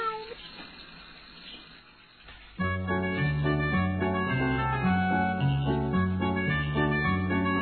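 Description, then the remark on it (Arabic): A short cat meow comes in over a noisy, hissy background near the start, then steady tonal music takes over and plays on for the rest. “مياو مياو مياو، هيا بسرعة يا قطقوط، هيا بسرعة”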